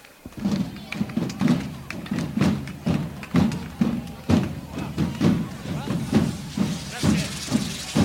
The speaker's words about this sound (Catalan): I ara els diables es donen foc entre ells en la que serà la darrera de les enceses, aquest ball de diables de la colla jove que ens han ofert en aquesta festa major 2010.